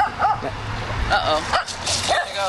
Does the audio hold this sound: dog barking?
yes